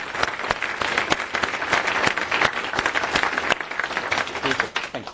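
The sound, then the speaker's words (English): A room full of people at a presentation applauds steadily to thank the organizers, dense overlapping claps forming a continuous wash of sound that holds for several seconds before starting to thin out at the end. “So a round of applause on that side.”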